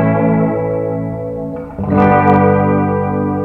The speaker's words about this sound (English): It gives it like a tape warble, which is cool.